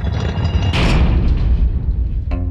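A heavy prison door slams shut with a loud, booming impact over a deep rumble, followed by a sharp metallic clank that leaves a ringing tone at the end. No one speaks.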